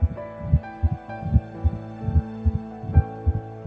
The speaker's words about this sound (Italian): A 3 settimane e un giorno, a soli 22 giorni dalla fecondazione, possiamo già sentire il suo cuore che batte.